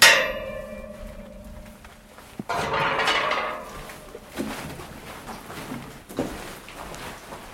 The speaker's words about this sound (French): On va ouvrir la porte de la galerie.